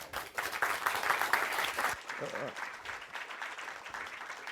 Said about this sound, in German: Und ich bitte um einen netten Applaus